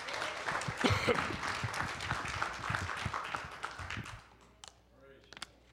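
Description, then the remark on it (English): An audience at a church service applauds as a hand clap of praise to the Lord, with dense, overlapping hand claps for about four seconds, then the clapping thins out to a few scattered, sharper claps before fading. “Would you give the Lord a hand clap of praise tonight?”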